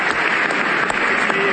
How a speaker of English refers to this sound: Standing ovation for President Trump here.